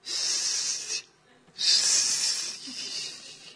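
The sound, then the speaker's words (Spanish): Hissing of leaking butane gas, a loud, steady high-pitched rush in two stretches: about a second, a brief near-silent pause, then a longer hiss that eases slightly toward the end. No talking. “Bueno, oyes un siseo.”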